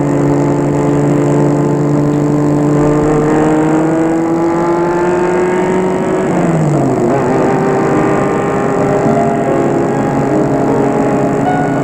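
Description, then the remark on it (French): A car speeds along leaving Paris, with a loud, steady engine drone throughout, its pitch dipping briefly at a gear change midway before climbing again. “La voiture file, file.”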